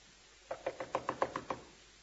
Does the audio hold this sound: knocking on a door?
yes